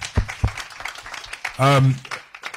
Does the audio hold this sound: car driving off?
no